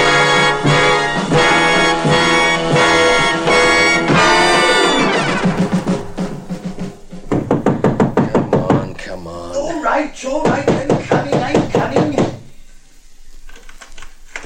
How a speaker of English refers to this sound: What do you mean by hammering on my door at this hour of the night?